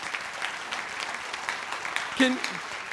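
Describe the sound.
An audience at a church service claps steadily throughout to give the Lord a clap, a dense wash of many hands at moderate volume, with a brief voice rising over the applause near the end.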